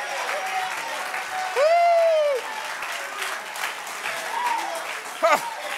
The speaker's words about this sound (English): Do I have any testimonies in the house that would clap your hands and lift up the name of Jesus and say, thank you, Jesus, for bringing me out?